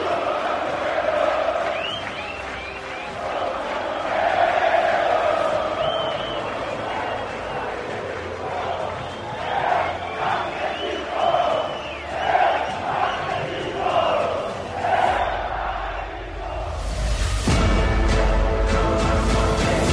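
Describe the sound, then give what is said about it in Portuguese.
A large crowd at the Alfredo Jaconi stadium roars and chants for the Juventude team after a Juventude goal, in rising, rhythmic waves of shouting and cheering, loud and sustained throughout, ending in a broad burst of noise. “Eu quero ouvir a papada gritando, eu quero ouvir o Alfredo Jaconi gritando, saudando esse time, que com força, com luta, quer permanecer na Série A.”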